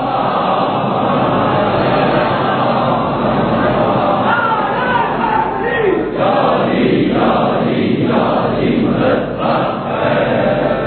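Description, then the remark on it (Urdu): A large crowd loudly recites durood in unison, a dense wall of many voices rising and falling in a few rhythmic surges over about eleven seconds. “بارے دیگر بلند آواز میں درود پڑھیے محمد والے محمد.”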